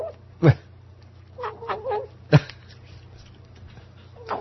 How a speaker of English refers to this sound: Kitty videos, particularly gobbles from a little kitten named Turkey that gobbles when he eats his food.